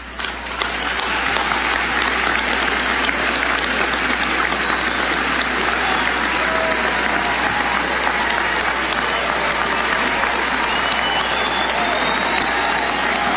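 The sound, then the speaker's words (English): A large audience applauds a line about upholding the sanctity of life in a televised session where Nancy Pelosi is present; a dense, continuous wash of clapping that starts abruptly and holds at an even, loud level throughout, with no individual voices standing out. “I wish CFAN had pulled back so we could see if Nancy Pelosi is applauding the sanctity of life.”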